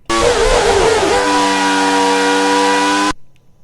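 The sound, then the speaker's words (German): A loud, high-revving Formula 1 car engine from a racing video game screams steadily, its pitch wavering briefly before holding a sustained harmonic whine, then cutting off abruptly after about three seconds. “Teil 3 klingt jetzt wirklich sehr, sehr ähnlich. Formel 1-Wagen.”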